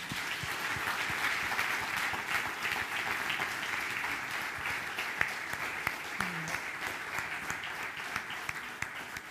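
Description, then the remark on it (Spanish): Steady applause from a crowd, a dense wash of many hands clapping continuously for several seconds at an even level, with a few sharper individual claps standing out toward the end. “Muy bien, pues podemos aplaudir, ¿no?”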